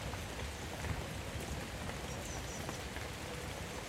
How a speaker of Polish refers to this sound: Pamiętasz, gdzie nagrywałeś burzę? Mhm. Tu słychać więcej niż burzę. Sam nie mokniesz chyba, co? Jesteś pod dachem, jak sądzę.